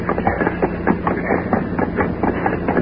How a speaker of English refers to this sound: It looks like the armored truck coming now.